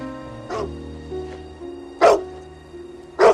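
dog barking

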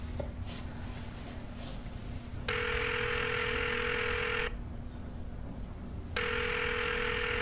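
phone call ringing

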